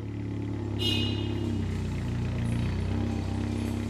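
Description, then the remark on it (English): A Zamboni ice resurfacer at an ice rink, driven by an ice technician, runs steadily with a low, droning rumble throughout, and a faint higher mechanical whine joins in about a second in. No one speaks. “I drive the Zamboni primarily.”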